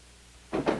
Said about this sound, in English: As Matt walks away, Margaret gently closes the door and leans her forehead against it.